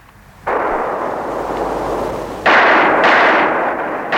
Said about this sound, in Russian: Раздались выстрелы над болотом, и оба гусака упали в камыши мертвыми.